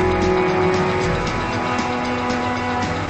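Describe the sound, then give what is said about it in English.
A Volvo car's engine rumbles as it pulls up at a farmhouse, a steady low hum with a slight shift in tone near the end and no voices. “At the farmhouse, Sarah pulls up in the Volvo.”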